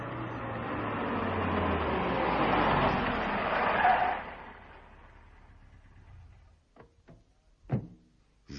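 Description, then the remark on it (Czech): A car rumbles closer, its engine noise swelling for several seconds before dying away as it comes to a halt at the Bártas' house, followed by a few sharp clicks and thuds. “Koukejte, už zase nějaké auto.”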